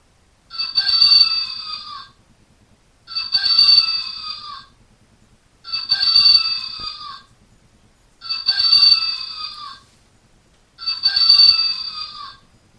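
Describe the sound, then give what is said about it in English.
A computer talking clock alarm, set for 2:15 p.m., rings in five evenly spaced bursts, each a bright, warbling electronic tone with sliding pitch lasting over a second, separated by short silences, with no voices; it is stopped with the control key. “And I just hit the control key to stop the alarm.”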